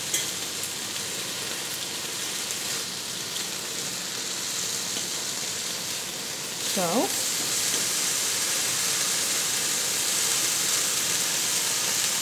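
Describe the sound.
Four slices of bacon, browned on one side and just turned over, sizzle steadily in a frying pan with a dense crackling hiss that grows slightly louder partway through, when a voice briefly says a single word.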